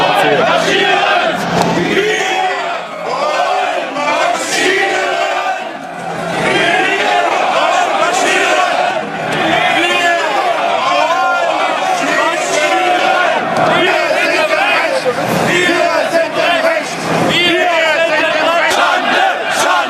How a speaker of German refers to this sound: … hier wurde auch auf Nazidemos gesichtet und hat damit gegrölt, wie hier in Dresden.